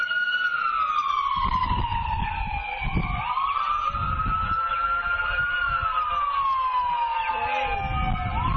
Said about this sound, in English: And the siren ambulance passes by. They're louder and louder. They never used to be that loud.